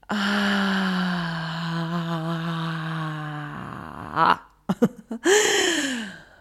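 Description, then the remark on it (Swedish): A long, deep exhale through the mouth after a deep breath in through the nose during a guided relaxation breathing exercise, voiced and steady for a few seconds, then a couple of short breathy puffs and a final falling sigh, fairly loud. “Och andas ut genom munnen.”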